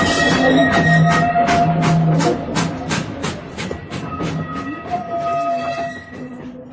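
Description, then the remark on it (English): A train pulls away and runs along the rails, its wheels clacking in a steady, even rhythm beneath a loud rumbling drone, with some faint high squealing tones drifting over it. “Looks like we're off.”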